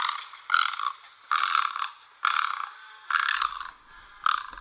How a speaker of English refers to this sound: You may not hear it from that scratchy call, but this is an incredibly beautiful, elegant bird. That call sounded like, it reminds me, there's a toy that you can get for kids, or as a kid, it's made of wood that replicates or is supposed to replicate